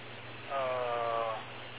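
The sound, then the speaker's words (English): A mobile phone goes off with one steady, tonal ring lasting under a second, rising clearly above a constant background hiss, with no talking. “Okay, there was my phone went off.”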